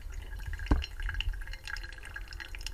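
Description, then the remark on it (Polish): Hot water is poured over coffee grounds in a funnel-shaped pour-over dripper with a conical paper filter, set on a scale with a timer; the water trickles and drips steadily, a soft liquid patter with one sharper splash early on, no voices. “Tam się wsypuje kawę i przelewa się gorącą wodą tę kawę i tak tutaj następuje proces parzenia jej.”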